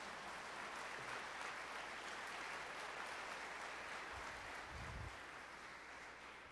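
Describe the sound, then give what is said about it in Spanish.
An audience applauds the Lord in the morning, a steady, dense wash of clapping that holds at an even level throughout, with a few low thumps near the end and no voices over it. “¿Cuántos pueden darle un aplauso al Señor en esta mañana?”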